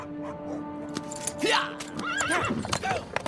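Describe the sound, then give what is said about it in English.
A horse whinnies with a high, wavering neigh over steady clip-clopping hooves, fairly loud, with a busy background throughout. “Abandoning his own horse, Preminger and the princess take off on Erve's cart.”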